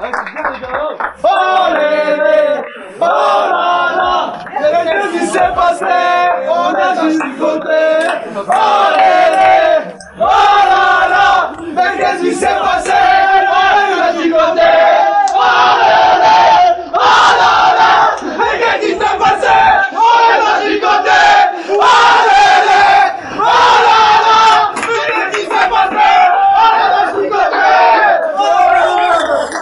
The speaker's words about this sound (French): Allez, on s'applaudit encore une fois, et bonne chance pour la suite.